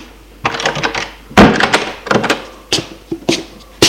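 door being closed

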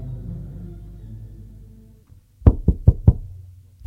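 knocking on a door

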